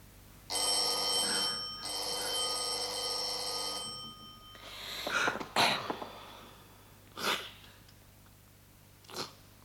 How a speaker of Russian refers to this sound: Ну, иди, отвори. Звонят ведь.